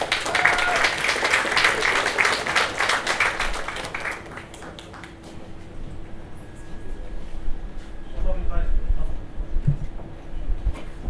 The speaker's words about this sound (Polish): Wielkie brawa!